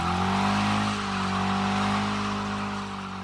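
A car engine roars steadily and loudly, its deep droning tone holding for a few seconds with a slight rise and fall in pitch, with no voices present; the car, after a screech, is heard outside a ball field during a game.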